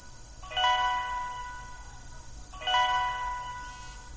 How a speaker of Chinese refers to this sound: 好，我们听见叮咚一声响，这个声音就说明联网成功了，我们放手吧。